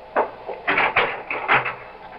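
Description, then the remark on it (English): A door creaks and thuds open, followed by a few clattering knocks and a final shutting bump as someone lets themselves out, over about two seconds with no talking. “No, don't bother to come to the door. I'll let myself out.”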